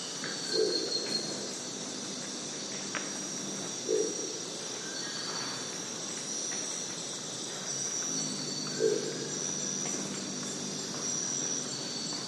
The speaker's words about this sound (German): Als erster meldete sich ein Brillenkauz. Sein Ruf klang wie das Schwingen eines Stockes. Auf der Endsilbe wurde er leiser.